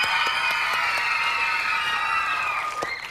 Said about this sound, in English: How about a big hand